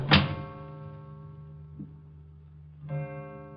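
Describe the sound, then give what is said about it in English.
A door shuts with a single heavy thud at the start, followed by a steady, sustained musical chord that swells again briefly near the end. No one speaks. “You'll close that door behind you, please.”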